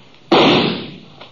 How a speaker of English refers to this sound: He was just a shadow partway up the canyon wall, maybe 30, 40 feet. His gunfire gave me a pretty good notion of where to aim.